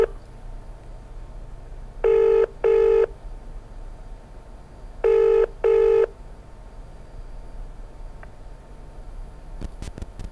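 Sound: telephone dialing and ringing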